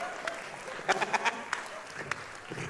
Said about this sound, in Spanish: No, un aplauso para los niños con hidrocefalia. Un aplauso para...